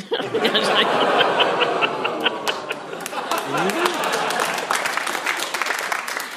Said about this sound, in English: What a strange reaction. Oh. I don't know, I've got a round of applause. That's all right.